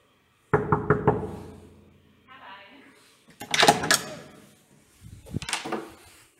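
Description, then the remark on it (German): Four quick, loud knocks on a door, followed by a pause, then shuffling movement and brief voices. “Ich klopfe mal.”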